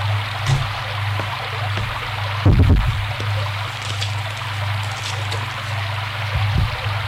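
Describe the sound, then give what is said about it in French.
Steady rain hisses evenly throughout, with a low constant hum underneath and a brief dull thump partway through. A couple of faint drips or taps stand out against the wash. “Comme il pleut, ça lui donne une bonne occupation.”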